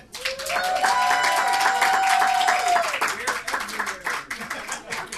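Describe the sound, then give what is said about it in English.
A crowd applauds the show's guests, Parsec award winners, with dense, steady clapping while voices cheer and whoop over it, the burst loudest early on and thinning slightly toward the end. “Now how about a big round of applause for our guests, Parsec winners,”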